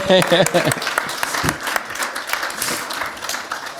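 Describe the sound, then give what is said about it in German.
A crowd breaks into steady, dense applause that fills the whole stretch at an even loudness, with a voice briefly audible over the clapping at the start. “Ein Applaus gut.”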